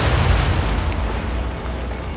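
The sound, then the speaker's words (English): A massive underwater-style explosion as a torpedo strikes the ironclad warship USS Tecumseh in Mobile Bay during a fleet duel with Fort Morgan, rumbling with deep, booming low end and a broad roar that stays loud and churning for a couple of seconds, with no voices. “Citadel answers in kind, but as the fleet fort duel gets underway, the Tecumseh connects with a torpedo.”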